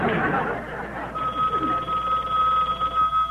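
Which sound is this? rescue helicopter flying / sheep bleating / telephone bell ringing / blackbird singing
telephone bell ringing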